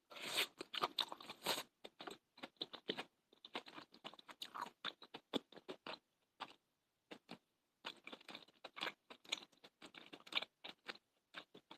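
Crunchy chewing of green onion and pork belly, loud rapid crackling bites in irregular bursts with brief pauses, and no talking.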